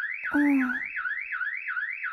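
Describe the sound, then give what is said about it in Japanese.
A loud electronic alarm wails continuously, sweeping up and down in pitch about twice a second, with a brief low droning blare near the start. “足音だと？この警報音の中で？”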